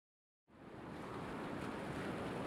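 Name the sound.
ocean surf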